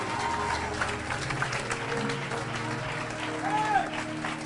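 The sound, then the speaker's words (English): A large crowd claps steadily for Jesus after a prayer for healing, a dense, sustained wash of applause filling the room, with indistinct voices and a low musical hum beneath it. “Can somebody clap for Jesus?”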